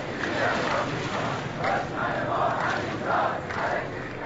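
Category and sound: crowd, street protesters chanting slogans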